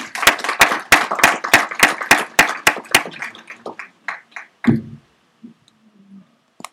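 Audience applause welcoming a guest speaker, in a steady, rhythmic beat: about a dozen crisp, loud claps in unison, then scattered, softer claps trailing off, ending in a dull low thump and near silence.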